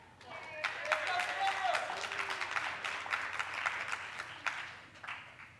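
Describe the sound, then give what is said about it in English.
An audience in a church claps steadily, a dense wash of many hands with scattered sharper claps standing out, plus faint cheering voices mixed in, holding a fairly even level throughout. “I think people will keep clapping if you keep just...”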